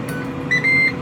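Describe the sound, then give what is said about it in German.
An air fryer cooking potatoes and fish sticks finishes: its timer gives two steady, high-pitched electronic beeps, a short one followed by a longer one, over the constant low whir of its fan, which keeps venting for a few seconds before switching off. “Man hört das Piepen, der Timer ist jetzt durch.”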